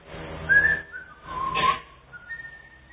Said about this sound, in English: He picked it up, threw all the water on the ground, and took a stiff brush, and he started to sweep and whistle like this.